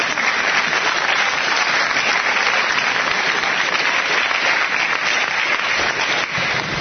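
A crowd applauds loudly and steadily, a dense wash of many hands clapping that holds at full strength for the whole stretch, with no voices standing out.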